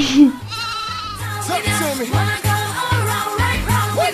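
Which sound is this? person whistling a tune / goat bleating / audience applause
goat bleating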